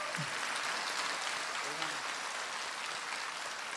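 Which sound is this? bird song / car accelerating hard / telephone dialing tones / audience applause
audience applause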